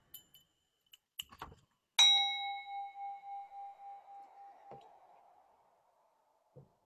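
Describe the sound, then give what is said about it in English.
A small bell is struck once and rings out clearly, its bright tone wavering as it slowly fades over a few seconds, preceded by faint clicks and handling noises. “Oh, beloved little bell goes ting, ting, ting.”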